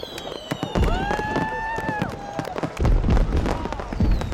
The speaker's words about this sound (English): a blazing, colorful set of fireworks shatters into thousands of sparks overhead